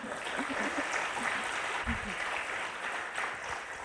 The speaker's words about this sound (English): A bit of an applause, please. Thank you.